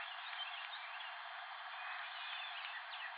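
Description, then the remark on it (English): A steady, dense wash of diurnal bird calls heard while it is dark out, with faint chirps and short rising notes poking through, held at an even, quiet level throughout, with no talking. “It's almost uncanny hearing diurnal bird calls when it's this dark out.”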